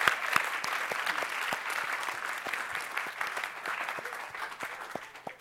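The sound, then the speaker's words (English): An audience applauds for God steadily, many hands clapping in a dense, continuous wash of sharp claps that holds fairly loud throughout, with no voices standing out. “I believe it's appropriate to clap for God, so let's clap for God and what he's done in these people's lives.”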